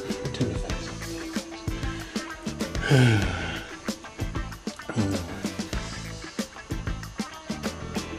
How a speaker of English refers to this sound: Somebody, what's that? That's him coughing.